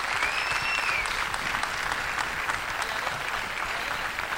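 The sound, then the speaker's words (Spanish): An audience claps steadily and densely for several seconds in thanks to the people who helped the performers, including the makeup team: a continuous wash of many hands at even loudness, with a faint whistle near the start. “Así que para todos ellos va nuestro aplauso y nuestro agradecimiento fundamental.”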